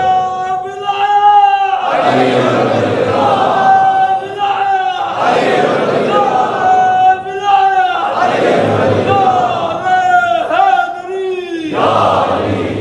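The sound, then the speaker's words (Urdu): A single voice calls out the slogan 'Nara-e-Wilayat' and a large crowd roars the response back together in unison, repeating in a steady call-and-response pattern four times, loud and sustained throughout. “جب کہہ رہے نعرے ولایت تو پھر مل کے جواب دینا.”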